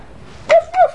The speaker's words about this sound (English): I think Puppy's getting anxious.